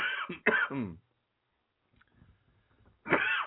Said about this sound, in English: Now you made me choke. We need a cough button.